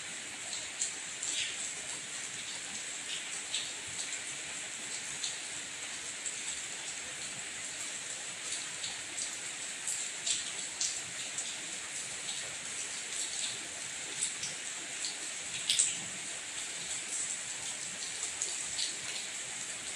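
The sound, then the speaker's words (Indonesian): Steady rain falls throughout, a dense hiss with scattered sharper drop ticks and taps, even in level, with no voices. “Masih hujan, aku sih bawa jas hujan.”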